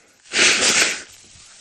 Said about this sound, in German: Tut mir leid, das kommt jetzt durchs Husten. Dann verschleimt auch wieder die Nase.